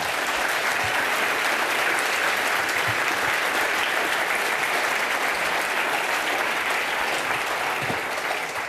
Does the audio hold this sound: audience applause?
yes